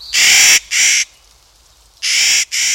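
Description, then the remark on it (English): Four harsh, gruff calls from a Clark's Nutcracker come in two quick pairs separated by a short pause. They are loud and raspy, with no other sounds behind them. “These gruff calls belong to a bird discovered 200 years ago near present-day Kamiyai, Idaho.”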